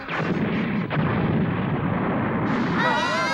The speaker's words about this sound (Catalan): El míssil passa fregant entre el cos i les extremitats del robot i impacta al cim d'una muntanya.